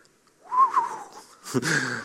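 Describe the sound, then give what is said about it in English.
A short whistled phrase of a few gliding, wavering notes, moderately loud, followed by a burst of louder, rougher, voice-like sound. “So if you find an old kind of toothless Appalachian man, have him whistle you a tune, and he probably will sound like an absolute marvel.”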